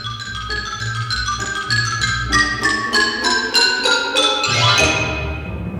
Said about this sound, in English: The xylophone.